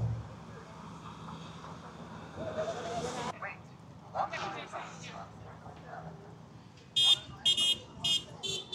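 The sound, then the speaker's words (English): A car horn honks several times in short, loud bursts near the end, at a street-corner demonstration with people holding signs, following a stretch of outdoor street noise with passing traffic and faint murmuring in the background. “Ask not for whom the horn honks. It honks for you.”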